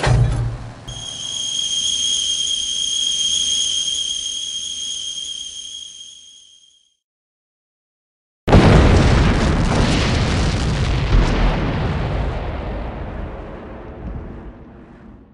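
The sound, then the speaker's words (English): A steady high-pitched whistle holds over a low rumble for several seconds, fades, and after a brief silence a loud explosion bursts out and slowly rolls away into a long crackling decay. “Where did Lucy go after the explosion?”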